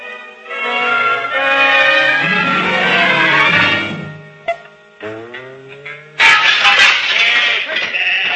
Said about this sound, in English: Wait a minute, and we'd set the flock of sheep free. No, man, there's about 300-400 of them.